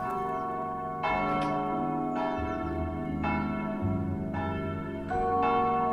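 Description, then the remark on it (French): Church bells peal loudly with no voices, heard at Maurice Ravel's house, Le Belvédère, in Montfort-l'Amaury; repeated strikes roughly every second layer into a dense, sustained ringing wash of overlapping tones and low hum. “Et je pense qu'avec Ravel, merci aux cloches, il faut traverser les miroirs.”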